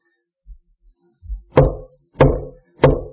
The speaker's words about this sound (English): The scripture says, Jesus says, behold, I stand at the door and I knock.